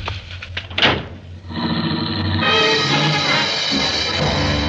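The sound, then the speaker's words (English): A few knocks and a sharp car door slam, then an engine roars up loudly and keeps revving steadily as the car pulls away at speed down a dark street. No one speaks. “I wasn't fast enough for him, and his foot slammed me out of the car and onto the sidewalk. The car shot down the dark street and was gone.”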